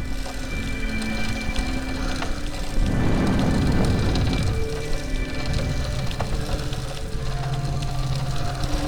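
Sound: rain falling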